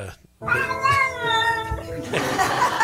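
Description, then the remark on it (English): A cat, Agri-kitty, lets out a single long, drawn-out meow, fairly loud, its pitch wavering before it trails off into a brief stretch of rustling noise. “Agri-kitty. Thank you so much, Agri-kitty.”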